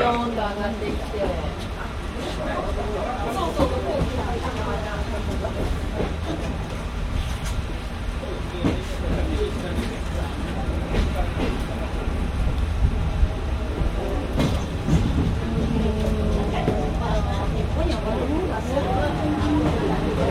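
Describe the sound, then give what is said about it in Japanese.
Steady, loud rumble of a train with trolley cars reversing about 800 metres along a switchback line, a continuous low roar with faint rattles, while a voice talks over it throughout. “800メートルバックをいたしております。”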